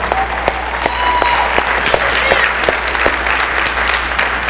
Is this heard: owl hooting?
no